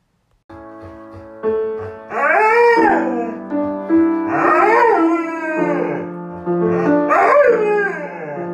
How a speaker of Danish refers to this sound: Og det er meget hyggeligt, især fordi hunden Ronja elsker at synge med til musik.